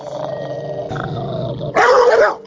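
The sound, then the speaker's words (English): A dog growls low and steadily for a couple of seconds, then breaks into a single loud, harsh bark or snarl. No one speaks. “Don't worry, his bark is worse than his bite.”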